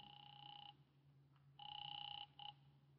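A telephone rings through an earpiece as a call is placed to Harlan Matthews's home number, a steady buzzing two-tone burst, a pause, then another long ring and a short one, thin over a low hum.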